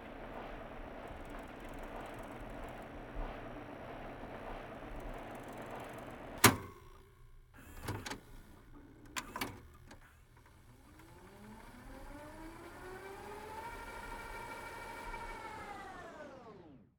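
A cassette tape hisses, then several sharp mechanical clicks sound before a whirring whine rises as the tape winds at speed, its pitch gliding and finally dropping off as it stops.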